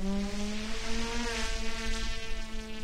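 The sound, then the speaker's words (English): Remote-controlled drones hum overhead above sensor-embedded rows of crops at the University Farm in Greensboro, in a steady, high-pitched electric buzz, their rotor whine wavering slightly in pitch and holding at an even loudness throughout, with no voices. “Overhead are drones.”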